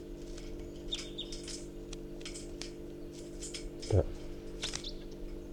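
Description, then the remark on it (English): At 6:14 a.m., at least a pair of wild birds call from an oak tree in scattered short, high chirps and tweets, fairly faint, over a constant low droning hum, with one louder thump near the end. “Recording, there's some wild birds here. It's 6:14 a.m. and there's at least a pair. And they're calling from the oak tree, and there's one in the oak tree, and that's a wild bird.”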